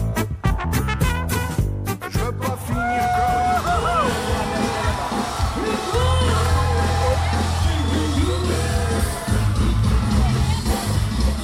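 A loud crowd at the TFF Rudolstadt world music festival yells, whoops and cheers over live music as the lead singer comes down from the stage into the crowd, with sharp percussive hits early on and a steady low bass hum beneath the noisy jubilation.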